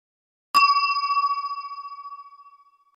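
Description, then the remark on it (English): A single clear chime rings out after a brief silence, its bright metallic tone sustaining and slowly fading over a couple of seconds, signalling to turn the page of a book. No voices accompany it. “When you hear this sound, it means you have to turn the page.”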